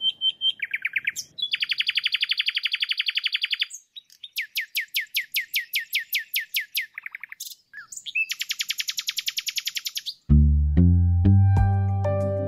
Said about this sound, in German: Du bist draußen an der frischen Luft, siehst die Sonne, hörst die Vögel.